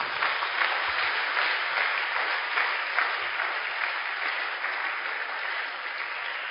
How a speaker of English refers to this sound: And I want you to congratulate yourself for being a member of this church by giving the Lord a clap offering, please.